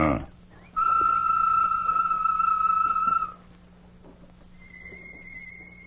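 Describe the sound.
Tonto in a Lone Ranger radio drama whistles a bird call: one loud, steady, sustained note lasting a few seconds, then a fainter, higher whistle answers after a pause, over a low background hum. No one speaks.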